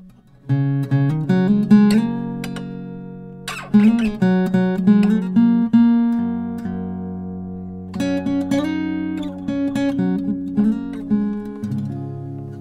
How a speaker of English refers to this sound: And I need to tune the guitar.